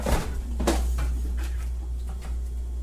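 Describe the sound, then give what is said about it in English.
A refrigerator in a home kitchen runs with a steady low-pitched hum without a break, with a few sharp knocks and clicks over it and no one talking. “Probably the worst offender is this guy, the refrigerator.”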